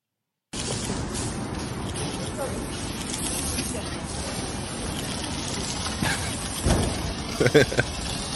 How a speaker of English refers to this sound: Just Stop Oil spraying the MI5 building